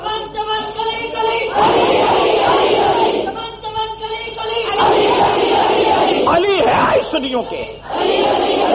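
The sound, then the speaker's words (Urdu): A large crowd chants a religious slogan in praise of Hazrat Ali loudly in unison, several surging shouted phrases repeated in rhythmic bursts, with a lead voice calling between them. “بلند آواز سے نعرہ لگائیے حضرت علی کی شان میں تاکہ دنیا کو پتا چلے کہ سنی سے بڑھ کر سپاہ صحابہ سے بڑھ کر علی المرتضیٰ رضی اللہ تعالیٰ عنہ کا پیروکار اور ماننے والا خادم اور کوئی نہیں ہے.”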